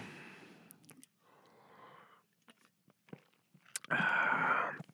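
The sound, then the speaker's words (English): Someone sips water: soft slurping and a few wet swallowing clicks, then a loud breathy slurp or gasp near the end. No one speaks. “We're going to have a sip of water.”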